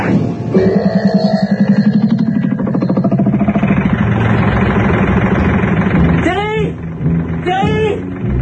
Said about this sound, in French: Et d'après ce que je sais, et bien maintenant elle laboure des prés dans un tracteur.